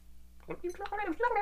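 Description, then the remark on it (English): After a brief hum of silence, a voice imitates a clock running backwards with a quick, warbling run of clicks and squeaky tones lasting about a second. “Let's have the sound of the clock moving backwards.”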